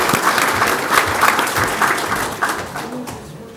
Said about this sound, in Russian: Но, тем не менее, сегодня он у нас присутствует, и мы можем его поздравить нашими аплодисментами. Поздравляем!